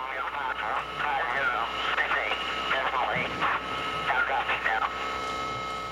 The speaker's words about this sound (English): As you can hear, the message was clearly so garbled that it could not be understood, had to be repeated. The clear transmission did not arrive till after the aircraft had been shot down.